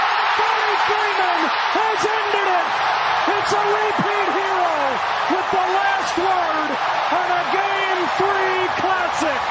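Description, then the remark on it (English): A huge baseball stadium crowd roars without letup for the whole stretch, loud and dense, with repeated rising-and-falling vocal swells on top. It is the end of Game 3 of the World Series, after 18 innings, as the Dodgers win. “Oh, that crowd sounded like they won the World Series.”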